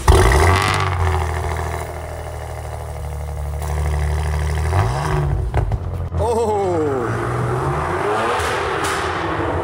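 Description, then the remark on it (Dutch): A Maserati engine is started and idles with a deep, steady rumble, then roars through several sharp revs that rise and fall in pitch, loud and alone with no talking. “Wil je het geluid laten horen dan? Heel graag. Ik slink hem aan.”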